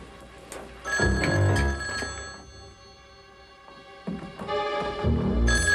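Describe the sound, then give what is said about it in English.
An old-fashioned telephone bell rings loudly in bursts, two or three long metallic rings separated by a brief pause, clear with no voices: a phone call coming into a home at 9:38 p.m. in a small town in the Northwest in 1976. “At precisely 9:38 p.m., Agnes Perkins' quiet evening at home is interrupted by a phone call.”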